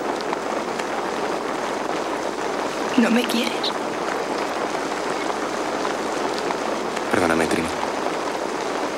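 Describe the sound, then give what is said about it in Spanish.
Steady, dense icy rain hisses throughout, fairly loud, striking a person's face, with a couple of brief spoken lines breaking through the downpour. “Mientras habla, la lluvia helada golpea su rostro.”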